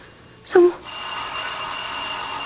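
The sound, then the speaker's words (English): A brief thump or vocal sound, then a doorbell starts ringing at noon, a steady bright electric ring that continues unbroken to the end, moderately loud. “Oh, who could be ringing the bell at this hour?”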